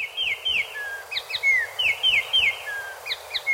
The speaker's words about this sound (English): to the melodic spot-breasted oriole, a bird of Central America introduced to the Miami area in the 1940s.